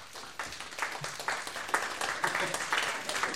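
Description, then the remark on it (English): A crowd split into groups snaps fingers, taps two fingers on palms and claps all together, building a dense, pattering wash of sound that imitates steady rainfall, continuous and fairly loud throughout. “Rain. Somebody give me an umbrella.”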